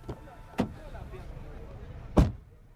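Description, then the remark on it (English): A car door unlatches with a couple of sharp clicks, then after a short pause swings shut with a solid thump over a low, steady background rumble. “Please open the door and we'll drive to the police station together.”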